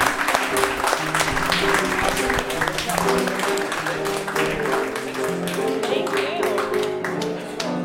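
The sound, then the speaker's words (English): Steady audience applause at a live show, clapping for a guest, fills the room for several seconds, many hands clapping at once in a dense, continuous wash, with some voices murmuring and calling out beneath it. “Please clap”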